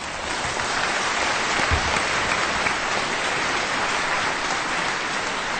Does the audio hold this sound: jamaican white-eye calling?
no